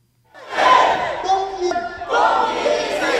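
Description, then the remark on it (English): A large protest crowd in Hong Kong's Victoria Park, at the annual June 4th commemoration rally, shouts the slogans "Vindicate June 4th" and "Justice Will Prevail" in unison, loud chanted bursts with a raised, strained vocal pitch, one rising chant giving way briefly before another swells up to continue. “For the first time in 31 years, these annual shouts of "Vindicate June 4th" and "Justice Will Prevail" were not supposed to ring out in Hong Kong's Victoria Park.”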